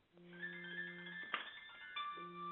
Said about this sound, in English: Sorry, my phone is going off. Hold on, let me turn it off.